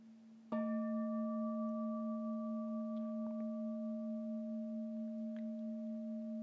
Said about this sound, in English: Listening to the sound of the bell, my breath brings me back to the safe island of mindfulness in the garden of my heart.